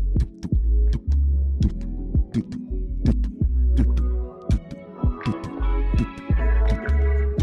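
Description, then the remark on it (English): Deep, booming drum beats pound in a steady, heartbeat-like rhythm, loud, with sustained low tones and brighter percussive hits layered over them. “You know, you hear this, you hear them drum beats, man. It's a heartbeat.”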